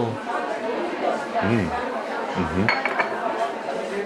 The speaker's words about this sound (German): Prost. Ja, Prost. Lass mal anstoßen.